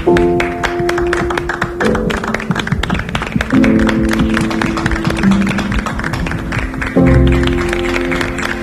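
A crowd applauds, an applause dedicated to all people who act responsibly over Christmas, with steady, dense clapping throughout over sustained musical chords that shift a few times. The clapping stays fairly loud and even, and no one speaks.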